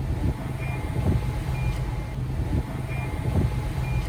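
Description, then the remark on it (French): Short, faint electronic beeps repeat about once a second from an oceanographic float, signalling that the device works, at the rear of the Gulas 2, over a steady, heavy low rumble of engine or machinery noise. No one speaks. “Il attend le bip qui signifie le bon fonctionnement de l'engin.”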